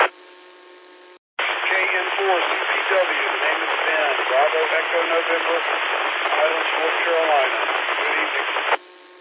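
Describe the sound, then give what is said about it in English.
A static-laden 2-meter amateur radio transmission on the Blue Ridge 2-meter net, from a station checking in from the Highlands: a voice buried in dense, hissing band-limited noise, briefly cut off near the start, then steady crackling static under the garbled speech until an abrupt stop. “There was a lot of static come through on my radio with your signal, but we got it.”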